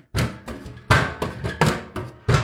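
One of two completely rusted metal chairs is knocked and handled, giving about six hollow, clanking thuds at an uneven pace, each ringing briefly before fading. No one speaks.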